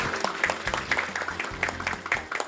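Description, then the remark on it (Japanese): Steady applause from a room of people at a Radio Nikkei and Pronexus investor-relations event for individual investors in Hiroshima, welcoming the president of Mitsui Landic; a dense patter of hand claps carrying on throughout at moderate volume, with a low hum or faint music underneath. “皆様どうぞ大きな拍手でお迎えください。”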